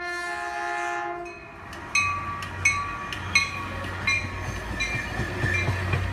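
A suburban commuter train on the railway out from San Francisco sounds its horn in a long, loud chord, then gives way to a low rumble and a rhythmic clickety-clack of wheels as the train rolls past.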